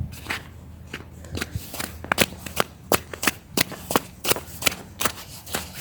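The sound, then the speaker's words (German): Steps squelching through slushy snow on a residential street churned to slush by a few passing cars: a steady run of soft, wet crunches at an even walking pace, each one short and fairly loud, with no voices. “Aber leider sind schon ein paar langgefahren, deswegen ist die Straße selbst schon recht matschig. Das hört man auch.”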